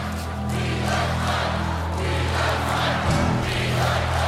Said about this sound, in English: The sounds of the crowd waft in through the open windows.